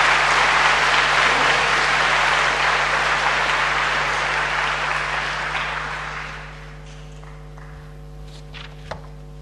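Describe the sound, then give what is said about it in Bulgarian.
An indoor audience in a hall full of graduates and parents gives sustained applause for the Chairperson of the Bulgarian National Assembly, Tsveta Karayancheva. The clapping is loud and dense for about six seconds, then thins out and fades to scattered claps and a few soft thumps over a low steady hum. “Моля отново вашите аплодисменти за председателя на Народното събрание, госпожа Цвета Караянчева.”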